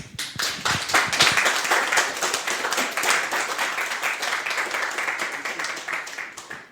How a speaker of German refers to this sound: Und damit höre ich jetzt wirklich auf und bitte euch alle um einen großen Applaus.